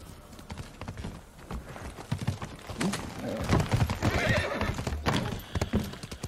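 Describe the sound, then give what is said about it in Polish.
A horse being ridden whinnies once, loud, while its hooves clip-clop in a steady, repeated rhythm throughout. No one speaks. “Dajcie konia.”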